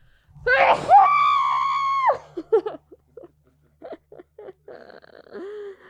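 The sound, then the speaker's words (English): A loud sneeze, caused by allergies, bursts out and trails into a long, drawn-out vocal cry, followed by a few short breaths and brief voiced murmurs. “Oh my god, I'm gonna sneeze.”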